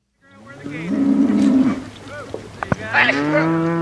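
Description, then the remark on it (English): Cattle moo loudly and repeatedly during a cattle drive on a ranch in southern Wyoming, moved from one high country pasture to another on a high plateau: several long, overlapping lowing calls from a herd, with a few sharp clicks or knocks in between and a steady outdoor rumble underneath. “For instance, this cattle drive.”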